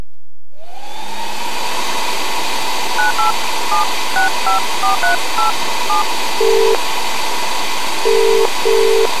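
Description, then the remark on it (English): A quick run of about eleven two-tone keypad beeps dialing the technical service department of an electrical shop, Sharks Electrical Supplies, followed by a few longer, lower ringing tones, all over a steady hissing, whooshing background noise. No one speaks. “For this call, we phoned up the technical service department of an electrical shop.”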